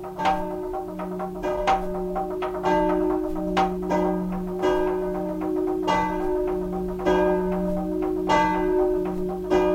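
church bells tolling

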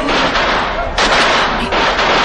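thunder clap

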